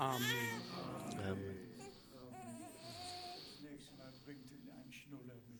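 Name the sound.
baby crying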